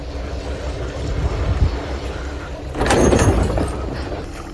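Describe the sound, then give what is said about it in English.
A pod of orcas ramming a sailing yacht off the coast of Spain: a steady low rumble is broken by one heavy, booming thud against the hull, followed by a brief rattling shudder before the rumble settles again. “The orcas are ramming the ship.”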